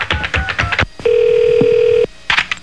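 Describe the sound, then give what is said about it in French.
A quick run of short telephone keypad beeps as someone dials to shop by phone, then a steady, loud dial-style tone lasting about a second. After a brief pause, a few more beeps follow, with no voices heard. “Une façon qui est assez courante, c'est le magasinage par téléphone.”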